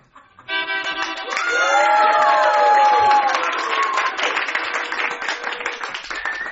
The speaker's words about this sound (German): Die Philharmoniker beginnen den ersten Takt und alle klatschen. Nochmal. Mit mehr Inbrunst.